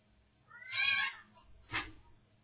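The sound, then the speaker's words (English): A cat lets out a drawn-out, wavering yowl, then a short, harsh squall a moment later, as a person's cats fight in the background during a telephone call, fairly faint and with no talking. “Is there a cat fight going on in the background, dog?”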